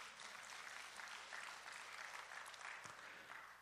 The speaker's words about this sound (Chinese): 我们给神一个掌声好吗？